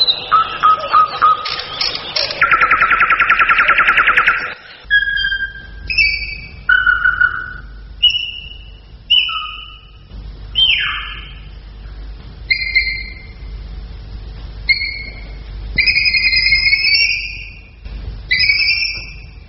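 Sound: bird song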